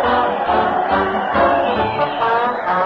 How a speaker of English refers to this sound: Fred Allen is leading his weekly parade to the old town hall, and the people are giving him and the thundering band cheer after cheer.